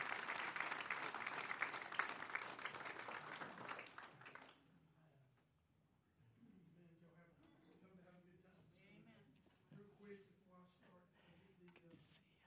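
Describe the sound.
An audience bursts into loud, steady applause for about four seconds as a man comes up to take over the program, then it cuts away and a man begins speaking.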